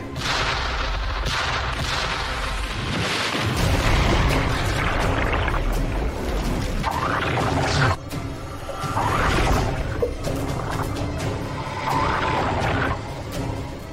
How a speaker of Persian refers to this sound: اگرم کشتی جنگی باشن بوم، باید از زیر دریای 3 تا اژدر آماده کن به عمق 10 متر. اطاعت قربان، اژدر آماده، همشون رو شلیک کن.